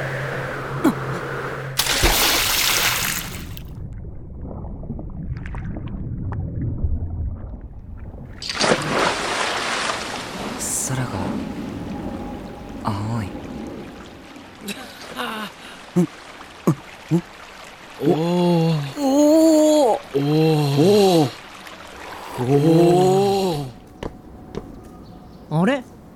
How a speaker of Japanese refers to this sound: 今の水の音。